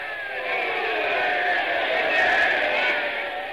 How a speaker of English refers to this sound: Ladies and gentlemen, I see the St. Louis manager is up out of the dugout, and everyone is screaming and yelling.